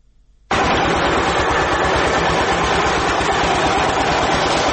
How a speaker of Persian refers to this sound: دستگاه های تولیدی فابریکه سمنت جبل سراج با وجود قدمت نزدیک به 70 سال هنوز هم چرخش فعالیتشان را دارند. فابریکه تولید سمنت جبل سراج از نظر تاریخی اولین فابریکه در افغانستان است.